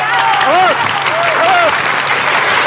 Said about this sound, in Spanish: En estos momentos se disponen a subir al kiosco para tomar sus lugares. ¡El aplauso bonito para ellos!